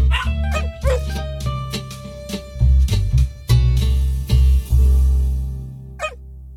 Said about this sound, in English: Yes, we are now into Barking Mad. This is our Just for Fun competition, where we are going to play the bark of a dog and you are going to guess the famous owner.